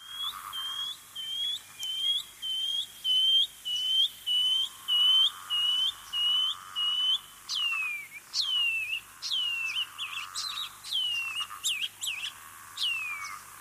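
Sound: bird call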